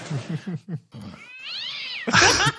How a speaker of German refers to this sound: War das deine Katze